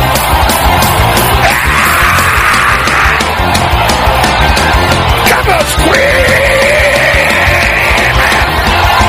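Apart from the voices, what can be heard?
audience shouting and screaming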